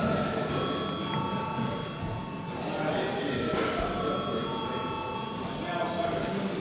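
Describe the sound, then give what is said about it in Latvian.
A parliamentary chamber bell rings continuously for several seconds, a steady, sustained electric tone over a faint background murmur of voices, calling members to vote on a draft decision on building new power stations. “Lūdzu zvanu.”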